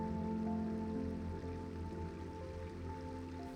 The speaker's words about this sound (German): Deine Aufmerksamkeit wird von einem klaren, sprudelnden Bach angezogen.